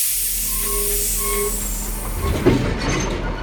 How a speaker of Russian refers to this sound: Состав качнуло. Лязгнули оковами вагоны, и поезд, ухнув от натуги, медленно-медленно пополз.